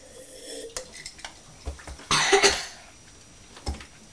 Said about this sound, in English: It's hot. It must be hot, wasn't it? Oh dear, that water really, really must be so hot because it's making you cough and splutter, isn't it?